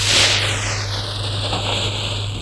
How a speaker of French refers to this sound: Il ouvre son sac en plastique